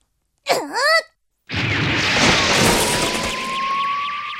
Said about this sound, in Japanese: うわ、天井に穴が開いてるわ。 エリーさんはどこに行ってしまったんでしょう。 なんか爆発したみてえだったぜ。